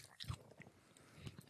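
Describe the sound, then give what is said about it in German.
Crunchy bites with the back teeth into a hard, sugary, medicine-smelling candy, a sharp crack near the start followed by a few softer crunching chews, with a quieter second bite toward the end and no talking. “Nur die Backezähne zum Abbeißen.”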